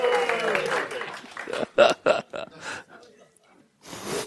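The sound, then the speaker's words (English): After a joke about the Sadducees, a group of voices cheers and whoops together on a count of three. The crowd then breaks into a few scattered bursts of clapping with short pauses between them, ending with one more brief round. “So we're all gonna applaud, right?”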